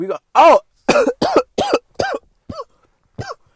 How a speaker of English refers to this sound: I'm just regular coughing. That's not the smoke cough. That's just me coughing.